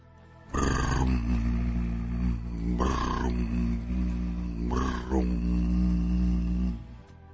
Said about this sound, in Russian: А где-то в непроницаемой тьме, из глубины пропасти, слышался затихающий рокот.